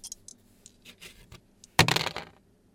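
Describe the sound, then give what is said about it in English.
A few light clicks, then a sharp clatter of two dice tumbling and rattling across a surface, settling within about a second and landing on a one and a one. “We have a 1 and a 1. Snake eyes.”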